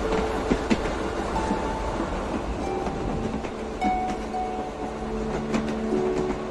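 A train rumbles steadily along its rails, a continuous rolling noise with rhythmic clacks, metallic squeals and faint tonal whines rising and fading over the constant drone.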